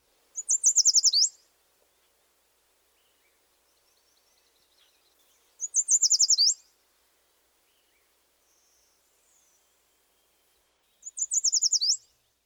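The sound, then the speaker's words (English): A yellow warbler sings three bright, sweet phrases spaced about five seconds apart, each a quick run of high, clear notes, with near-silence between them and no talking. “The bright, perky song of this species may be heard in a wide variety of habitats. Here's the yellow warbler one more time.”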